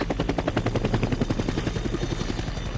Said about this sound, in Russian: Бомбардировка! Трансляция фейерверков. Кажется, сегодня. Фейерверк. Я слышала об этом. Никогда не видела.